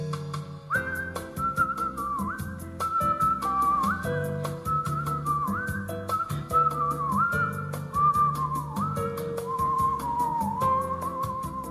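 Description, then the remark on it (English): A person whistles a lilting, clear melody over a steady instrumental backing with a regular beat, with no talking. “celebrate their annual rite of spring and to breathe new life into mankind's first musical instrument.”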